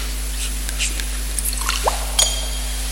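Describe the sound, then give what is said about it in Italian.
A small amount of water is poured into a chalice of wine to mix with it: a few faint, scattered drips and light splashes, then a short rising trickle, over a steady low hum with no voices. “L'acqua unita al vino sia il segno di unione per la vita divina.”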